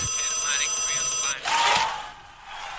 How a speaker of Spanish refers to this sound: Llegó el WhatsApp.